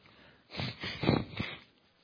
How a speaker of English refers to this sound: I hate to blow my nose on the microphone, but you got to do what you got to do.